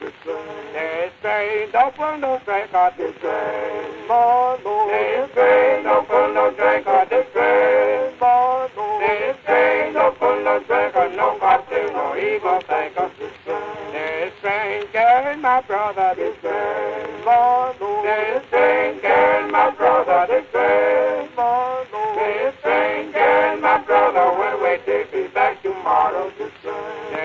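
An old, scratchy 1925 recording of a gospel vocal group singing in harmony, thin and muffled like an early phonograph, continuing steadily throughout.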